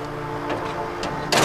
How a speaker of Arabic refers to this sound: سد الباب.